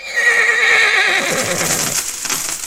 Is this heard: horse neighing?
yes